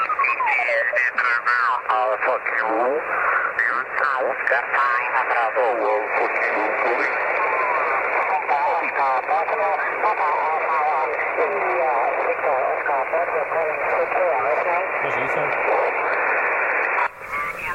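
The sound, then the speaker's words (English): Overlapping, garbled amateur radio voices chatter through a satellite transponder in a narrow, hissy band, warbling and chirping with Doppler-like distortion, several stations talking at once over steady static for the whole stretch before it cuts off. “Dus we kunnen nu gaan kijken, de transponder. Dus daar kunnen mensen via praten.”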